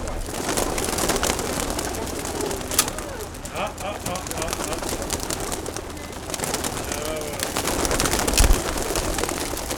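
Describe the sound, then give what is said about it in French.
A flock of pigeons being released coos and stirs, a dense, continuous bustle of bird sounds, with faint voices of people murmuring in the background. “Quand vous voulez pour lâcher les pigeons, je vous laisse.”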